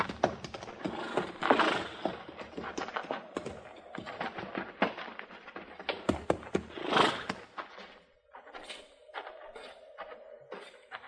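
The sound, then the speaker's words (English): Horses being put into a barn and tied in stalls clomp and shuffle, hooves knocking in an uneven, irregular rhythm, with a couple of louder breathy bursts and a faint sustained tone near the end. No one speaks. “We'll put our horses in the barn here, Chester.”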